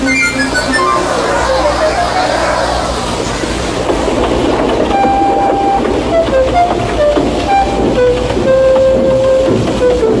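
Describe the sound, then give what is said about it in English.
A steam train chugs away from a station platform, leaving luggage, passengers and the conductor standing behind, its rhythmic chuffing and rolling wheels filling the scene, with bright whistling tones and hissing layered over the steady rumble. “started, leaving luggage, his passengers, and the conductor all standing on the platform.”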